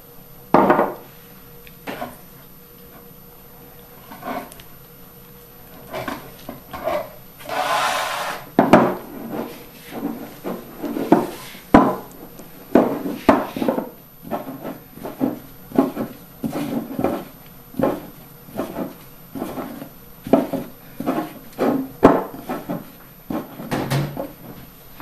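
Dough of 100 grams of wheat flour and 65 grams of water being mixed and kneaded by hand: a steady series of soft thumps, rubs and squishes against a wooden surface, irregular but continuous, with no talking.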